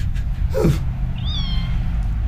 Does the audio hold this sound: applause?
no